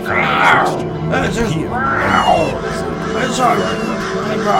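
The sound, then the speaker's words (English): Low, drawn-out growls and groans come through a phone line, rising and falling in pitch in a steady, continuous stream with no pauses and no clear words. “It's growling and stuff.”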